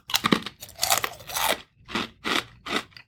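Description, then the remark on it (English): Loud, crisp crunching of potato chips being chewed, a rapid burst of crackly bites followed by three steady, evenly spaced crunches, with no talking. “I'm going to have one more of these because, you know what? These chips are really, really good.”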